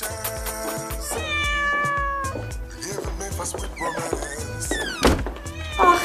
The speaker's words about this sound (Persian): آخی پیشی.